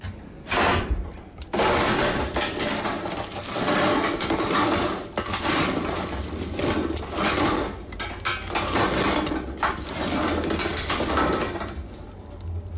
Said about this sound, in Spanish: Un remover, un crepitar, vemos también ahí un crujir. ¿Esto qué es, Pachi? Ya lo estoy saboreando, ¿no? Unas castañitas, ¿no?